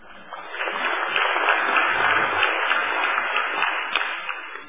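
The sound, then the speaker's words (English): Sustained applause from an audience at the end of a presentation on saving rhinos, attended by a Minister, a dense, steady wash of many hands clapping at a fairly even loudness for several seconds, with no voices standing out. “Round of applause, I think.”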